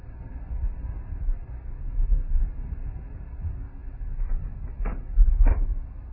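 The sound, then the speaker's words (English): A door with a squeaky bearing is opened: low rumbling and handling noise, then a few short scraping squeals near the end, moderately loud, with no one talking. “Let me open this door.”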